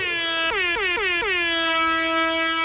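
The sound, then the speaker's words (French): A loud, blaring siren horn sounds on its own, stuttering through four quick pulses before holding one steady, brassy tone to the end. “Mollo sur la sirène?”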